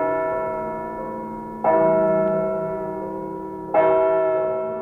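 A church bell tolls in slow, evenly spaced strokes, each clang leaving a long, humming resonance that fades before the next strike. No voices are heard.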